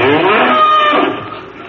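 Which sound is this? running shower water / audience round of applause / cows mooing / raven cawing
cows mooing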